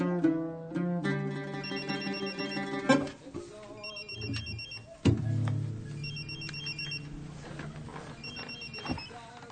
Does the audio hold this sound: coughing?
no